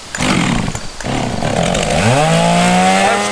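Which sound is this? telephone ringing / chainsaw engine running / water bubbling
chainsaw engine running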